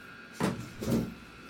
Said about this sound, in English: Who is knocking on the door?